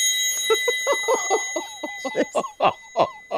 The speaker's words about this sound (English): This is for whom the bell tolls. It's a dinner bell. It sounds a little... Oh, it's the dinner bell. It sounded more like a Steinbeck novel or something, didn't it?